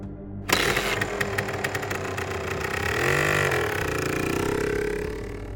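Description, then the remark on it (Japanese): An off-road motorcycle engine fires up abruptly and revs, its rough mid-pitched drone rising and falling as the bike pulls away toward a mountain hut, loud with no voices. “回答し、オフロードバイクを山小屋めがけて走り出させたその時。”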